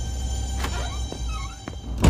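A woman pulls a door shut, with a few light knocks and creaks as it swings, then a solid thud as it lands in the frame against a low background rumble.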